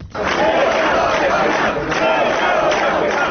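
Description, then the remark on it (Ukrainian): A large crowd gathered outside a courthouse in central Chișinău shouts and chants together, a loud, continuous roar of many overlapping voices with rising and falling surges and no clear individual words, while the court rules on extending the arrest of former prime minister Vlad Filat. “Натовп людей зібрався біля приміщення суду в центрі Кишинєва, який ухвалював рішення щодо продовження на місяць арешту екс-прем'єра Влада Філата.”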